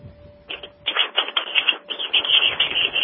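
Rapid keyboard typing, a dense run of clicky keystrokes that starts after a brief pause and continues steadily, fairly close and moderately loud, with a faint steady hum underneath.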